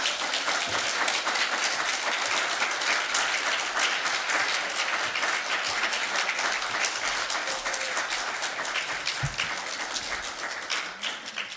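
A large crowd applauds steadily, a dense wash of many hands clapping that holds strong for about eleven seconds and only slightly eases toward the end, with no talking over it.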